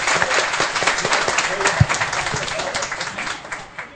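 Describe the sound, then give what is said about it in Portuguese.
Audience applause for two students: a dense, steady patter of many hands clapping for about four seconds, fairly loud, fading slightly toward the end, with no clear voices standing out. “Amigos, uma salva de palmas para os dois estudantes.”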